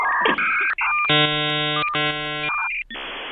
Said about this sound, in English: Yeah, and I love the telephone hookup modem. Yeah, the hookup modem is great. It sounds like they're killing an alien.